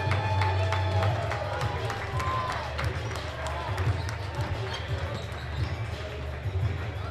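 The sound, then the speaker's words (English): A steady roar of an arena crowd at a basketball game fills the space as the North Pole women's team comes out, with repeated ball bounces and squeaks echoing on a hard court and scattered shouts rising from the stands. “Hearing it from the crowd.”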